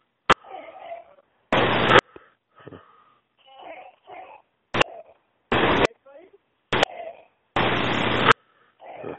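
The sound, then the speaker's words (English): Harsh, hacking coughs burst out repeatedly from a male who is choking, some short and sharp, others long and rasping, with strained, gasping vocal sounds in between. “What's he coughing so badly for?”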